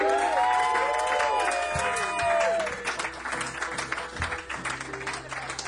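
A crowd breaks into loud, dense applause with rising whoops and cheers for the first few seconds, then settles into steady clapping that continues at a slightly lower level.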